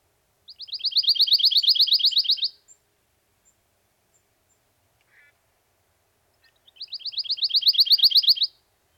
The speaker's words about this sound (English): If you listen carefully, you may hear the soft musical trill of the pine warbler, one of our summer migrants calling from the pitch pines.